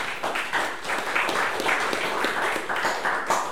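A crowd applauds steadily, many hands clapping in a dense, even wash of sharp claps that holds at a fairly loud level throughout, with no voices over it.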